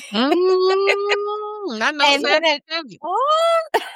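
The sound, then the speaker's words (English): A person's voice imitates their cat meowing: one long, drawn-out meow followed by several shorter meows that rise and fall in pitch, fairly loud. “She'll probably go, meow, meow, meow, meow, meow, meow.”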